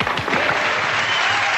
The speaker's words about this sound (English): Okay, cue the clap now.